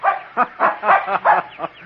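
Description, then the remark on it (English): A small terrier puppy barks and yips in a quick, excited string of about seven high, sharp barks, fairly loud with no talking, in woods in a park near the ocean in autumn. “Oh, you're the dumbest dog a man ever owned.”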